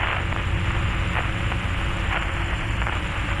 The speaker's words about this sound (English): There was a moment of agonizing telephone static.